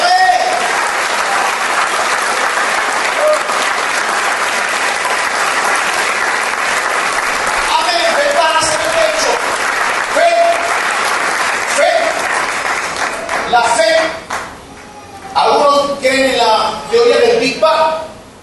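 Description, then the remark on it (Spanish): An audience applauds the Lord in a dense, steady wash of clapping lasting around fourteen seconds, with scattered voices mixed in, before the clapping thins out and people start talking. “Un aplauso al Señor.”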